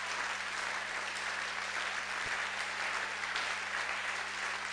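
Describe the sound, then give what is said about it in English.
An audience claps together in praise to God in sustained, dense applause, a steady roar of many hands lasting throughout with no voices standing out, over a faint low hum. “When I say let's clap in a moment of power, better clap in that moment of power to God.”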